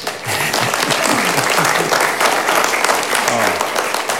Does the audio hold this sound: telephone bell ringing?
no